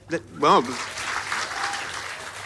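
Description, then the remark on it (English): A short burst of voice is followed by an audience clapping, a steady, dense patter of many hands that holds at a moderate level for about two seconds. “Of course, the lefties in the audience are clapping.”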